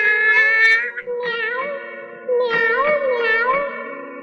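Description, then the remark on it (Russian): A voice imitates a cat, producing a string of drawn-out, wavering meows one after another, fairly loud, with a slight echo and no other talking. “Собака ты или кошка, а помяукать я не попробуй.”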